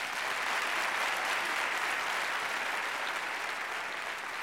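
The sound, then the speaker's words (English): Steady audience applause for Harlow Doyle fills the whole stretch, a dense, even wash of many hands clapping at a constant, fairly loud level with no voices rising above it. “Well, I know he won't be able to hear it, but let's give Harlow a big hand.”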